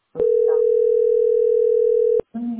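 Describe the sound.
A steady telephone dial tone hums loudly and unbroken for about two seconds, a single flat mid-pitched note, then cuts off as a voice starts talking.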